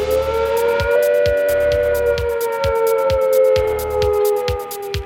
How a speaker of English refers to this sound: When suddenly the 4-minute warning sounds.